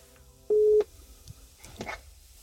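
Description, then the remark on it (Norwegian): A short, steady electronic telephone tone sounds once, loud, as a phone call connects to keep an open line with colleagues waiting in a car, followed by faint rustling and handling noises. “Jeg holder kontakt med dem over telefon.”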